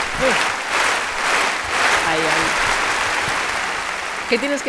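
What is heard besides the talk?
studio audience applause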